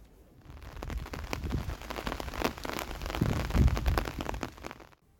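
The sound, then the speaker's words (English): Steady rain pattering onto hard surfaces outdoors in a city, a dense wash of droplets with scattered louder splats and a low rumble underneath, continuing without a break and ending abruptly. “the rain and the umbrellas, forming a black cord, scourging me through the city, a self-maintaining system.”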